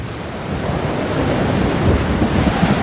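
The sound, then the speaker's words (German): Rough sea surf churns continuously under gusting wind around a submarine during a storm at sea, a dense, loud roar with heavy low rumble and no pauses. “Oh nein, der Sturm zerschlägt das Ruder und das U-Boot kränkt.”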